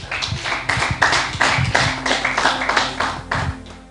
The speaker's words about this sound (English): Somebody say glory. Clap your hands, church.